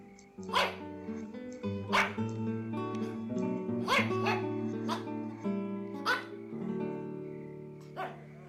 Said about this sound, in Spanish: «¡Guau, guau, guau, guau, guau!», ladraba el perrito. Analía lo alzó. «¡Hola, perrito! Yo soy Analía». Los ladridos del cachorro partían el corazón.